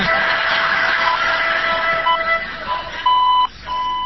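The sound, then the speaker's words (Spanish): La Trochita narrow-gauge train arriving, heard as steady, high whistling tones with short beeping notes repeating over a low rumbling hiss, ending in a louder sustained tone. “Es la trochita de eso.”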